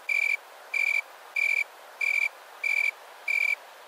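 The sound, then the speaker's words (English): A Riley's tree cricket (Acanthus rileyi), a Western species, gives a steady series of short, high, buzzy chirps, about six in a row at an even pace, each one a clear ringing pulse over a faint hiss, with no talking. “So that's Acanthus rileyi, and that's a Western species.”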